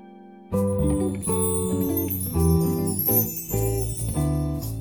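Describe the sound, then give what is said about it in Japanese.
Bells ring out in a loud sequence of sustained, resonant tones that change pitch every half second or so, forming a short chiming melody with no voices. “歴史と今を味わう散策、向かい鐘を響かせて。”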